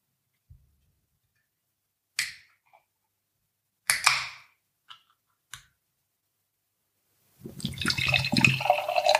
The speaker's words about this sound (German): Ja, und heute haben wir hier eine Dose stehen, und zwar das Fuel the Mayhem von BrewDog. Das ist ein helles Bockbier mit 7 Volumenprozent. Drin sind Wasser, Gerstenmalz, Hopfen und Hefe. Okay, dann mache ich die Dose mal auf.